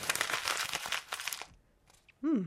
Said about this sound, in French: Froisse la feuille de façon à créer une boule de papier.